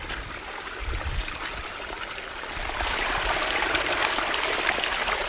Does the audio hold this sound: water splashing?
yes